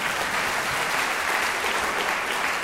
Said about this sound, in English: You can always applaud them.